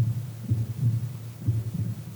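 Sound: human heartbeat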